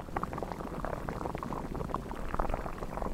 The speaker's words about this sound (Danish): Har du gættet det? Det er vand, der koger og bliver til damp.